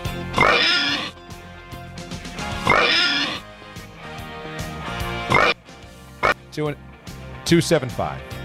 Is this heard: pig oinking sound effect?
yes